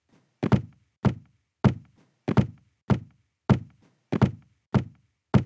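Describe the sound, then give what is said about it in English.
Feet stamp on a floor in a steady rhythm, about nine heavy thuds spaced roughly half a second apart, each with a deep low thump and a brief bright slap. “Yes, I'm stamping my feet. Stand up now and let's stamp together.”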